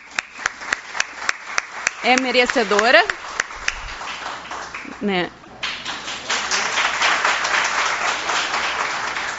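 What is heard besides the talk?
audience applause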